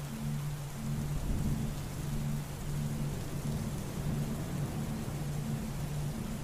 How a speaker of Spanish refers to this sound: A la mayoría de las personas les gusta observar una tormenta de verano y la viven en forma plena, disfrutándola. Algo en ellas le transporta cierta sensación de calma.